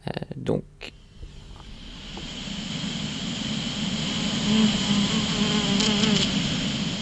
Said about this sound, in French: Oui, donc là, je vais passer un son d'une abeille qui est passée dans une parcelle de tournesol.